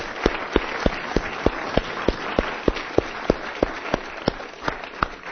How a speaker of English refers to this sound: We're celebrating the grace of God in this place. So let's give Him a clap. Let's worship the Lord together.